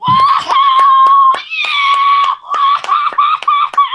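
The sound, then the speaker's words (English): A voice imitates a late-night TV show studio audience screaming and cheering: a loud, sustained high-pitched whoop, punctuated by sharp, irregular claps throughout. “They get like 1,000 people in there and then they make them scream for an hour and a half about nothing.”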